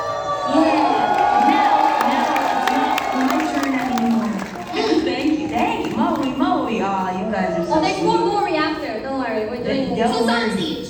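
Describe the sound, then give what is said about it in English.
A lively crowd cheers and whoops continuously for about ten seconds, a loud dense mix of many excited voices with some clapping underneath, sustained without a break. “Thank you very much for the applause, though, everybody.”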